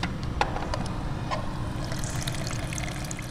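A small sample of Planet Money's oil trickles into a glass test tube for a quality check before it goes into a pipeline, a soft liquid pour with a few light clinks, set against a steady low rumble of background noise.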